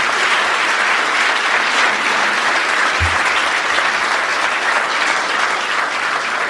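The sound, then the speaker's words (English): A large audience claps steadily and loudly for several seconds for two speakers, a dense, sustained wash of applause with no voices rising above it. “I also just want to ask you to please give again a round of applause to our two speakers,”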